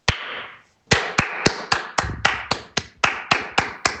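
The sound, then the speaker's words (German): A single person's hand claps, clapper number 2 in a comparison of different people's claps: one sharp clap with a lingering tail, a short pause, then about eleven crisp, evenly spaced claps in a quick steady rhythm, fairly loud, with no talking. “Fang mal an mit Klatscher 2.”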